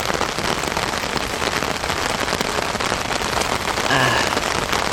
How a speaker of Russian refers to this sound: Время всего-навсего 1:57, 2 ночи. Это всю ночь я буду под этим ливнем до утра спать сегодня.